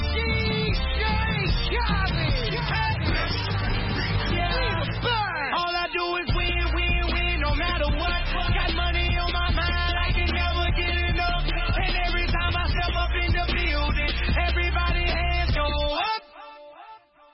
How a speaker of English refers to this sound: C'est la chanson qu'on écoute et bien sûr on dédie ce morceau à tous nos amis de Goma.